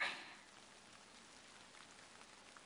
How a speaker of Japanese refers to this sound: 雨、上がらないね。私ね、雨好きだよ。外に出ると最悪だけど、家の中にいれば綺麗な景色に見えるから。